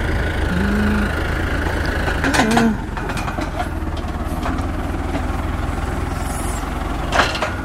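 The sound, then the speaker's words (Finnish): A low, steady tractor engine idles with a constant rumble as it is parked in an apple orchard, picking boxes on a platform behind it, a few brief clanks and knocks rising over it now and then. “Siinä on poimintalaatikot traktorin perässä lavalla. Tähän mennään nyt sitten parkkiin.”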